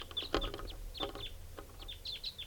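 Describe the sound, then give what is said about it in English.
Wild birds coming in, recorded at 6:41, call in quick clusters of high, thin chirps that come in three bursts, faint against a soft background hiss, with a couple of brief knocks or rustles mixed in. “Recording more wild birds coming in at 6:41. Different birds.”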